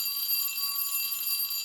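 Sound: school bell ringing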